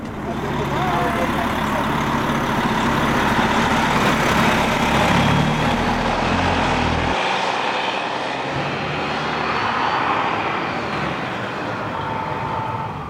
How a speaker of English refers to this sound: The bus goes over the high bridge, crossing the bay at the tip of Lake Superior into Wisconsin as the evening falls.